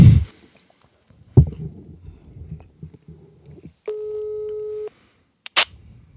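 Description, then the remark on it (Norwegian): A single steady electronic ringback tone lasts about a second on an outgoing phone call made from Oddnes Hotel, with handling thumps and clicks before it and a sharp click just after. “Ok, men nå ringer det her.”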